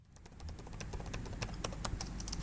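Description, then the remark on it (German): Rapid, irregular clicking as a researcher types on his laptop keyboard while browsing a table of fatal lightning-strike events from 2018, fairly quiet, with a steady low hum underneath and no voices. “blättert durch eine Tabelle auf dem Bildschirm seines Laptops.”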